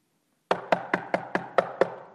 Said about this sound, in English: a knock came on that camper door.